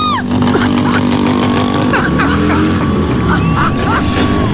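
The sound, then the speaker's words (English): Loud engines rumble and rev continuously at the start of the 46th Sydney Lesbian and Gay Mardi Gras parade as the first group of 12,000 marchers sets off. A crowd's babble and scattered whistles and cheers rise over the steady mechanical roar. “Warning, the sound of engines revving are erotic.”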